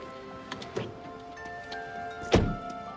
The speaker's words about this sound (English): In the driveway, Scarlett gets out of her car.